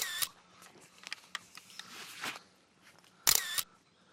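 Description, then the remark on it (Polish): Great spotted woodpecker chicks clamour from a nest hole in a beech tree as an adult feeds them: two loud, harsh bursts of high, buzzy chattering at the start and near the end, with scattered faint clicks and rustles between. “Dzięcioł duży karmi młode i jest niezły hałas.”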